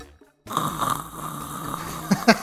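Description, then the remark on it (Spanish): Someone imitates the hiss of a very old TV switched on with no antenna and no signal: after a brief silence, a steady, breathy rush of static runs for about two seconds, finishing with a couple of louder bursts. “De que se prende la tele y no trae antena y no tiene señal, güey.”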